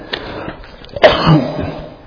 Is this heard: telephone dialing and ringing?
no